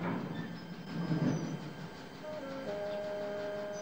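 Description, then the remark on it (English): A train rumbles across a bridge high over a gorge, its low clatter easing off as thin, steady brake squeals rise near the end, like cars grinding slowly to a stop on the bridge. No voices. “It slows to a stop on the bridge.”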